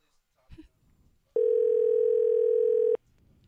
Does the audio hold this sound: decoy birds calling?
no